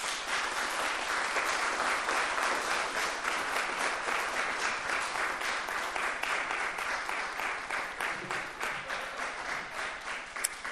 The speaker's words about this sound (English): There's some things that you just have to let a little applause go for, and that was one heck of a letter.